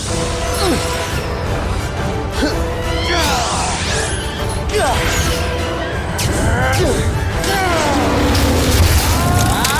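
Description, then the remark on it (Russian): Repeated game gunfire with sweeping, zapping blasts and booms, coming in irregular bursts over a dense, noisy background, with indistinct voices in the mix. “Отлично выстрел”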